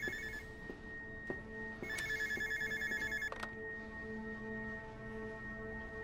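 A home telephone rings with a bright, trilling electronic bell, one burst fading into the next, clear against a low background hum, with no one speaking.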